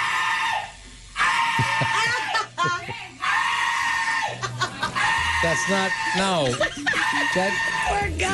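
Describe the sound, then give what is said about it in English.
A man at a tattoo shop lets out loud, strained screams and wails while getting tattooed, one drawn-out cry after another with brief gaps, with no clear words. “Someone at a tattoo shop recorded a guy screaming while he got tattooed.”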